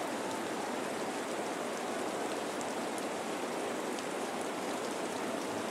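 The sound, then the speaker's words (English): Steady rain pours down outdoors at a ballpark, where a baseball game is being called for rain, a dense continuous hiss with faint scattered patters of drops, moderately loud and unchanging throughout, with no voices. “And it looks like this one will be called for rain.”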